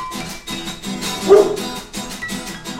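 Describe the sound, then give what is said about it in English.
A single sharp dog bark rings out midway, set against a steady, rhythmic musical beat that keeps pulsing underneath before and after it. “That dog's bite is worse than his bark.”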